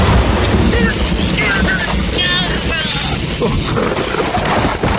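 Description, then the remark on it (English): Storm wind buffets a microphone outdoors in a steady, loud, rumbling roar that never lets up, with faint indistinct voices half-buried beneath the gusts. “Luckily, I did all my audio after the fact, so I wasn't even close to them when they were outside in a storm.”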